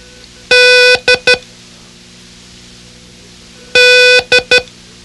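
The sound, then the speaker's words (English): Code signal beeps, sounded as the code for a letter learned with the phrase "Dog did it", sound twice as the same loud, steady buzzy tone pattern: one long beep followed by two quick short ones, with a pause between the groups and no voices. “Concentrate on the poor puppy's expression of dismay and repeat, "Dog did it," as I sound the code.”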